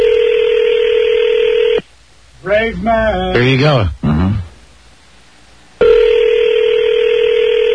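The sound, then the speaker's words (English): A steady electronic phone tone hums at the start, cuts out while people briefly talk, then resumes unchanged to the end, as an on-air call back to a caller rings unanswered. “He's not picking up his phone now.”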